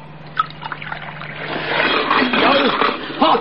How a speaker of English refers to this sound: Is that coffee? Yes. I'll pour you some.